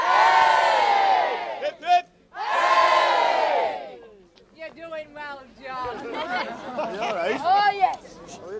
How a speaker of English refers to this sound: He's carried shoulder high through the village by two men whilst a third man shouts. Shout, lads, shout!